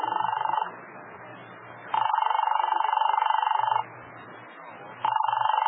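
household object, telephone being dialed

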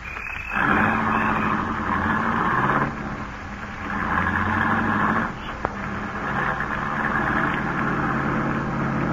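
vehicle, car engine running

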